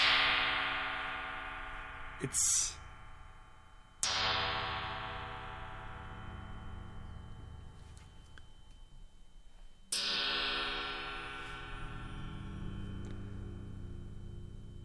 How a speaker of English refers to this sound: And now I'm just going to hit one of the big gongs with my little aluminium stick.